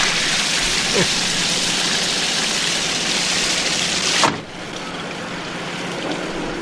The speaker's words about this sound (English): My radiator must be leaking. I'm sorry about that.